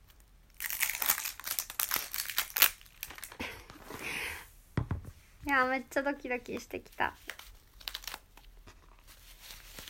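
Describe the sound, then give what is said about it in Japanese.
Crinkly plastic packaging of a bottle of lubricant is torn and rustled open in a run of sharp, crackling bursts, followed by a short stretch of someone speaking with a few more crinkles around it. “じゃあこっちもね、ちょっと開けときましょう。”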